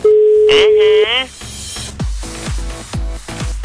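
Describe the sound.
A telephone ringback tone sounds once while calling a man's son-in-law, a steady, mid-pitched hum lasting about a second, then gives way to voices and low thumping noises.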